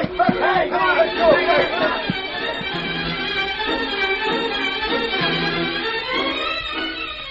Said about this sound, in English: Empty before, except for the two clerks and Jed Harrow, the bank now was the focal point of attention as a crowd gathered into the small building. Men who'd lost their savings in the robbery, others who didn't have dust there but had friends who did.